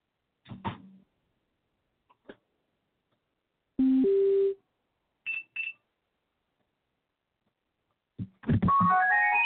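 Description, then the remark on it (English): A tinny electronic melody of the Star Spangled Banner plays from a phone: a few scattered bleeps and short tonal bursts with silent gaps, then a quick run of bright stepping notes at the end. “And as my phone dies, here's the Star Spangled Banner.”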